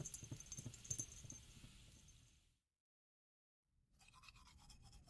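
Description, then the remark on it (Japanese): Rapid, scratchy toothbrush strokes as someone brushes their teeth at a washbasin, scrubbing steadily for a couple of seconds, a brief pause of silence, then the bristly brushing resumes, bright and hissy, with no voices. “今は洗面台で歯磨きをしています。”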